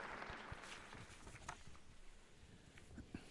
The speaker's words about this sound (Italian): Ecco l'ingresso del Papa in carrozzina, che viene salutato da tutto il personale, i parenti, i bambini dell'ospedale. Sentite l'applauso.